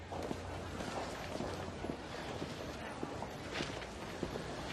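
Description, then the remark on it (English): A man's brisk footsteps stride through a government building at a steady, even pace over a constant low background hum, each step a short, moderately loud tap. “At the government building, Adrian strides through.”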